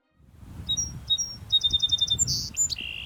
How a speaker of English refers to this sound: And the bird that it sounds like? The song sparrow.